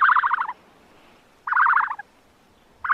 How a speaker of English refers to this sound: Know who that was? That, my friends, was an ostrich.